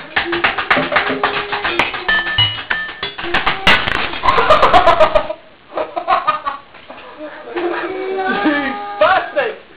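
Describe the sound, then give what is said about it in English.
Birds chirping and calling in a busy, overlapping chorus, fairly loud, with a brief lull partway through before the calls pick up again. “Oh, there's an extra case of birds here.”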